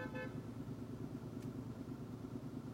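Steady rumble of street traffic and idling engines, with a bus holding up the traffic and a short car horn honk near the start cutting through the drone. No one speaks.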